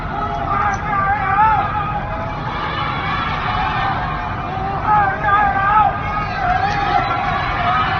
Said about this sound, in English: I keep going back to this video that I watched that you shared yesterday on Instagram where Wuhan people were just chanting from the towering high apartments. I'll just play that for people home now.